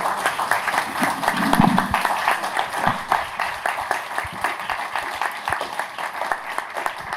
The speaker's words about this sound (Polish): Wstańcie, to dla Was są te brawa.